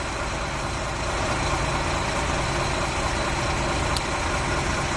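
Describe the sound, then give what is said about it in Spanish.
Engines of army trucks, a Humvee and cars rumble and idle steadily as they enter the town of Massanassa, a dense, continuous low drone of several vehicles with no voices, one brief higher click near the end. “Así suenan los motores de los camiones del ejército de tierra, un Hummer, coches, acaban de entrar en Massanassa, uno de los puntos más afectados.”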